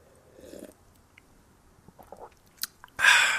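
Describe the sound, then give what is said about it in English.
A quiet sip of a Scrimshaw drink: faint wet mouth clicks and small slurping sounds, ending in a sudden louder breathy burst, like a satisfied exhale after swallowing. No talking. “Take a quick scrimshaw sip.”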